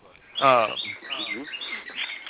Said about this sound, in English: And that's what I'm going to cover up the birds for a bit, because this one is just like cuckoo crazy.